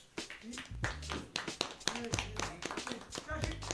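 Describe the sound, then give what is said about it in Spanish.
A small group gives itself a round of applause after answering quiz questions, a brisk, uneven burst of sharp hand slaps, fairly loud, with voices and laughter mixed in underneath. “Venga, nos damos un aplauso.”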